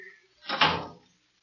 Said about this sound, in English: locking the door.